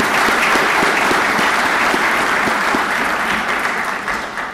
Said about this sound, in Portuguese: Aproveitamos a presença entre nós do Diretor Executivo das Nações Unidas para o Ambiente, o Dr. Ashton Steiner, para o saudar, em particular pelo seu papel para que o Acordo de Paris fosse atingido. E eu convidaria a Assembleia a uma salva de palmas.